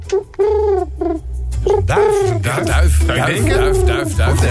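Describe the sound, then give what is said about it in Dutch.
A person imitates a pigeon's cooing with a series of low, warbling, rising-and-falling vocal coos, fairly loud, with some breathy voiced sounds mixed in. “Duif.”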